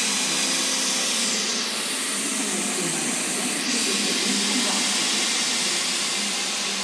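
A train engine idles loudly at a station, a steady roaring hiss that fills the whole clip without letting up, drowning out the station announcement and any other sound around it.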